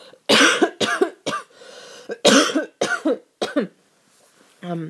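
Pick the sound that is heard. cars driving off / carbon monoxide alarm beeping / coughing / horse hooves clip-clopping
coughing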